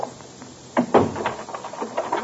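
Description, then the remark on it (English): A door chain rattles loose with a couple of sharp metallic clicks, followed by the door creaking open and a scatter of lighter knocks, fairly quiet. “Take the chain off the door and let me in.”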